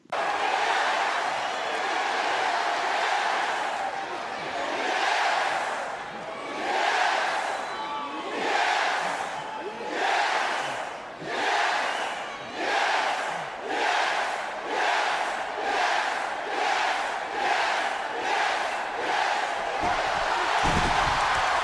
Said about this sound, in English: And it picks up steam, and every single person in this crowd is doing this yes chant. It's quite the scene.